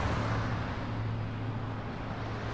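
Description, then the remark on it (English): A bus approaches through street traffic, its deep engine rumble and steady low hum holding constant over a broad wash of roadway noise, with no voices. “I think I see it. Is that it? Yep, here it comes.”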